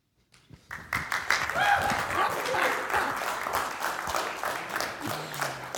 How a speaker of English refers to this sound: Man, I love that we clap so much. It makes me laugh. Because, like, we clap about all kinds of things as a church.